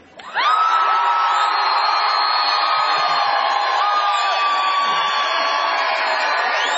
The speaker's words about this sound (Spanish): Primero van a saludar los de adelante a los gritos. A ver.